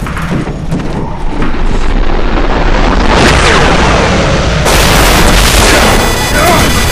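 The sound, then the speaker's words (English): The concussion of the blast as an antimatter missile is destroyed: a loud, deep booming blast rolls into a sustained roaring rumble, with crackling noise spread across the whole range and a sudden harsher surge of roar partway through. “Then came the concussion.”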